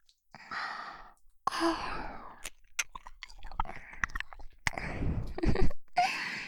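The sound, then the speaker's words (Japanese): Wet, slurping mouth and tongue sounds of ear licking, with soft breathy sighs and sharp little smacks and clicks coming in irregular bursts, fairly quiet overall with no speech. “さあペロペロしていきますよ。赤ちゃんみたいに泣きながら王女の耳舐めてく気に耐えていきましょうね。”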